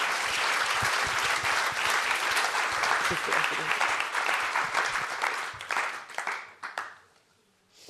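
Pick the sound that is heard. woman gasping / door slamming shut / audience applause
audience applause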